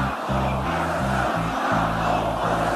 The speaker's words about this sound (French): On est chez nous, crie la foule au meeting d'Éric Zemmour.